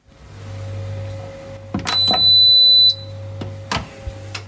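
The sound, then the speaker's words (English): A dishwasher gives a sustained, high-pitched electronic beep lasting about a second, set against a steady low appliance hum, with a few sharp clicks before and after. “Because the other day I realized that my dishwasher beeps.”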